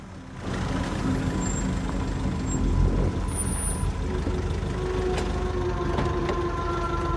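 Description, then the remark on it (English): A van's engine rumbles low and steady as it drives through a stone archway and pulls over to a stop in the car park of the Verne Detention Centre in Dorset, with a faint hiss of brakes and no voices. “It pulls over in the car park inside.”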